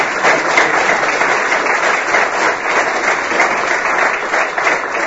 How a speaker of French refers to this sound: Je crois qu'on va l'applaudir très très fort pour cette vidéo.